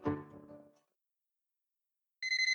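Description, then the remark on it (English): A cell phone starts ringing near the end with a bright, steady electronic trill that cuts off abruptly, after a short fading musical note and a pause of silence. No one speaks. “You have cell phones there?”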